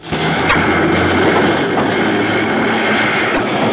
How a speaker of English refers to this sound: You remember the Jeep? That's what they call it. A long, open electric car used to transport the miners to and from the mine.